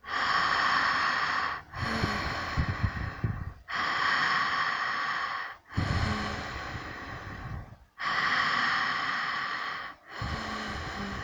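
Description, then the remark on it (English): Steady, connected, relaxed breathing in and out through an open mouth with the jaw relaxed, during a breathing practice, with about six airy inhales and exhales of roughly two seconds each flowing one into the next, with only brief pauses between them. No one speaks. “I invite you to start breathing in and out through your mouth.”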